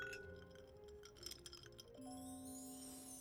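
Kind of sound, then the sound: household object, glasses clinking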